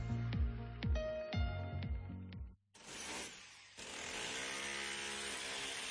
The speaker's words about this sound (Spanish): Vaya pasada de taladro. Sí, es un taladro Makita.